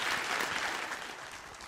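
Steady audience applause, a dense wash of many hands clapping at an even, sustained level for the whole stretch, with no voices standing out above it.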